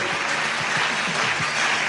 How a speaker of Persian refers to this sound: صدای تشویق حضار و رونمایی از این نگاره زیبا.